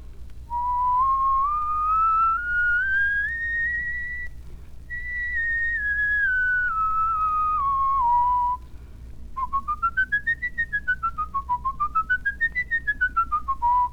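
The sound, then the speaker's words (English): A single person whistles a clear musical scale as a whistling lesson exercise, stepping up note by note, then back down, followed by quicker rising and falling runs. The whistling is steady and unaccompanied. “Now then, let's do one scale.”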